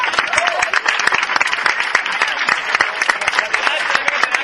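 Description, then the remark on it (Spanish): Sustained applause from an audience welcoming a speaker, dense overlapping claps at a steady, fairly loud level for several seconds with no one speaking over it. “y me gustaría, pues antes de que ella nos dedique unas palabras, pues pediros a todos vosotros que la recibamos con un caluroso aplauso, porque se lo merece.”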